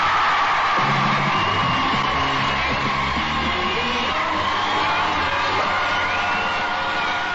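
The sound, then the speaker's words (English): A big beach crowd at the Radio 1 Roadshow on North Thistle Beach, Newquay, in sunshine, cheers steadily and loudly throughout, with whoops and shouted yells rising out of a continuous roar of many voices. “The sun's shining, we've got a wonderful crowd”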